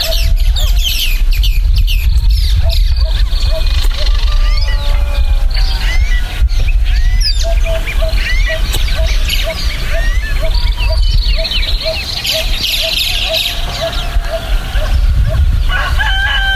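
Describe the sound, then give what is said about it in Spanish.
Outdoor ambience on the bank of the Río Verde in the community of Paso de la Reina: a steady low rush of flowing water beneath busy chirping and trilling birds, with a rooster crowing and hens clucking throughout. “Así suena la ribera del Río Verde en la comunidad de Paso de la Reina.”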